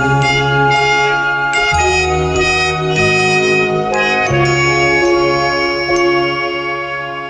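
A bright, upbeat 1980s Christmas pop tune plays loudly and continuously, with chiming bells ringing over a steady synth-driven backing and shifting bass notes. No voices are heard.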